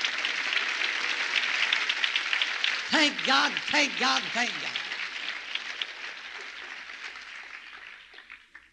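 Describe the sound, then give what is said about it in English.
A church audience claps to the Lord in a dense, steady wash of applause that runs throughout, while a voice calls out a few times over it midway, then the clapping thins and fades at the end. “Well, don't patty cake, clap to the Lord.”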